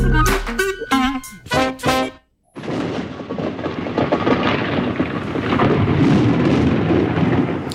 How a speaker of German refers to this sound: Das ist eines meiner absoluten Lieblingsgeräusche, das nicht laut genug sein kann. Der Donner, der meditativ poltert, bis er in der Ferne verschwindet.